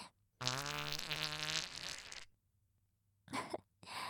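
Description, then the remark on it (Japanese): A long, loud, buzzy fart let out onto someone wearing underpants over their head, lasting about two seconds with a wavering pitch, followed after a pause by a shorter, sputtering burst. Clear, with no talking. “パンツかぶっておならかかされてんの。”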